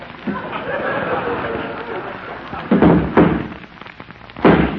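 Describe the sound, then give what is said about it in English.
Three heavy, booming thuds from Dandy, a horse locked up in his stall, kicking up his heels: two close together and a third after a short pause, each standing out loudly over a steady hissing background. “That's Dandy kicking up his heels.”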